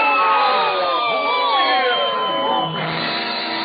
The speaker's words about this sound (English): we'll all yell boo at him. Oh, no, not that. Come on, everybody, now, 1, 2, 3. Boo! Boo!